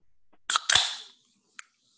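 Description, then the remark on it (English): A can of strong beer being cracked open: a quick metallic click, then a sharp snap with a short fizzing hiss that fades within half a second, followed by one faint tick. No voices. “A can opening.”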